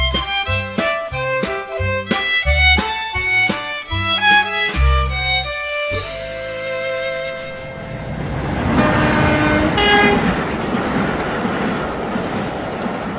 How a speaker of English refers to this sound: Well, here we are at the railway station.